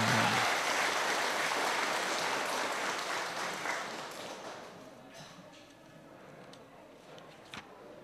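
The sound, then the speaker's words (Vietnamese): A crowd applauds loudly and steadily, the dense clapping holding strong for several seconds before gradually thinning and fading to a few scattered claps. “Cho một tràng vỗ tay thật lớn.”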